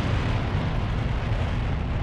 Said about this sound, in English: The engine ignites. The hybrid releases the sphere and is vaporized in the white exhaust.